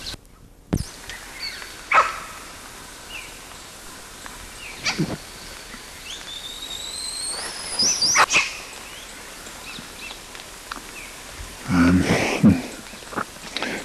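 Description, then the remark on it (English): Two animals, identified as LB and CW, call outdoors: CW squeals while both give quist calls and bark. Short sharp barks at scattered intervals, a run of high, rising squealing whistles midway, and a louder cluster of harsh calls near the end, over steady background hiss. “CW squealing and both LB and CW quisting, barking, same date as preceding.”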